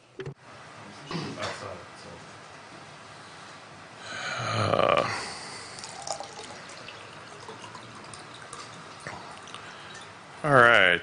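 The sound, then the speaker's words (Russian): Water is poured in a short rushing burst, followed by quiet sips and gulps, with faint clinks and shuffling around it and no talking. “У меня уже в горле пересохло, я хочу воды взять попить, и сейчас я возьму воды, и мы дальше поговорим про Remote Event Receivers.”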